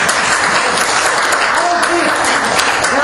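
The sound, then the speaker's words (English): An audience applauds steadily, a dense wash of clapping that holds loud and even for a few seconds, with faint cheers or voices mixed into the noise. “You can applaud that.”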